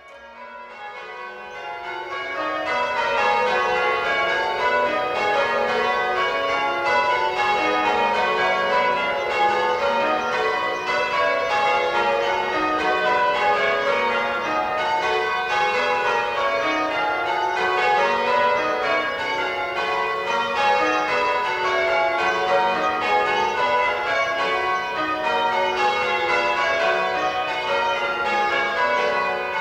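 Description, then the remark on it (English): The ring of eight bells of All Saints Church in Laxfield, Suffolk, rings a continuous change-ringing pattern of plain Bob triples, the tenor weighing 1,700 weight and tuned to F sharp: a steady cascade of overlapping peals sounding full, starting after a brief silence and continuing throughout without any voices. “We now hear them ringing plain Bob triples.”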